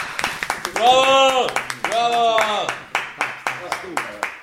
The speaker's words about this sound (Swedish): Varma applåd. Bravo! Bravo!